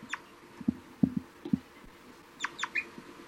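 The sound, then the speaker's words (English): A bird gives a few short, low, hollow toop calls spaced through the first half, responding to another bird's flight call, followed by a quick burst of higher, sharper chirps against a quiet background. “3-3 responding with a few toops.”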